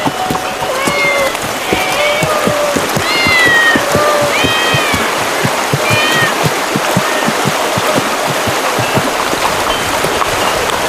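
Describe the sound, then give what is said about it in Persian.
Several cats meow repeatedly in a town's temple, overlapping high calls, over a steady wash of background noise like running water or rain and frequent soft tapping. “همه گربه اینجا چه میکنن؟”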